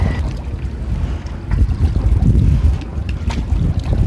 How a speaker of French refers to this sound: Là où l'on n'entend plus que le clapotis de l'eau et le vent. On est loin de la frénésie de la ville ici.